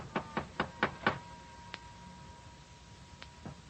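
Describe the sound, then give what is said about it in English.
Someone raps on a door late at night, around 12:30, with five quick, firm knocks, then a few single knocks follow after a pause. They sound fairly solid, with no voices. “My impulse was to raise my gun and pull off a couple of shots right through that door.”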